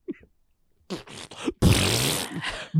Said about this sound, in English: We've got one. We've got farts.